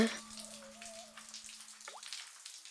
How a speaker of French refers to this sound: Le son de la rivière. Bah, le bruit de la rivière. On entend le son de la rivière.